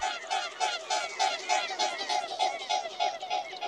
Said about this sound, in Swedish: En annan som har ljudliga vingslag är knölsvanen. Och man hör verkligen att det här är en tung fågel. Slagen är långsammare och kraftfullare.